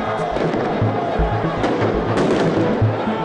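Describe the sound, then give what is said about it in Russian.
Dense, chaotic street noise during clashes between protesters and police in Warsaw, with repeated sharp bangs and low thuds at irregular intervals over a loud crowd roar, as protesters throw firecrackers and flares and police use stun grenades and rubber bullets. “У полицейских летели петарды, фаеры и урны. В ответ правоохранители применили дубинки, светошумовые гранаты и резиновые пули.”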